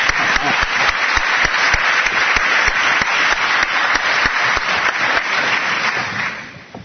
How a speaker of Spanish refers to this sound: Venga, bájate ya, daré un aplauso por favor a ellos.